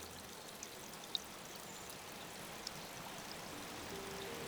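A river flows steadily, a continuous soft rushing wash of water with no breaks, fairly quiet and even throughout, with a couple of tiny droplet-like ticks on top.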